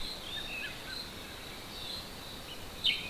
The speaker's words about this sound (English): And just listen to the birds.